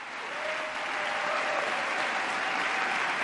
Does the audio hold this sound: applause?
yes